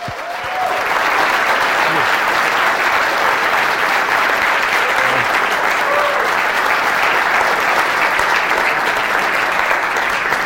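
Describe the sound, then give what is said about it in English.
Sustained applause from a class audience welcoming a guest speaker, a dense, steady wash of clapping that holds at a loud, even level for the full ten seconds without fading. “That's the best applause I've ever gotten in my whole life.”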